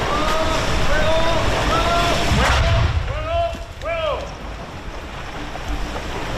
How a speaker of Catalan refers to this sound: Un artefacte que va ser desactivat a les 12 del migdia per l'unitat de busseig de l'Armada Espanyola, que el va fer explotar dins l'aigua a pocs metres de la vora, on es va poder veure i sentir la petita explosió.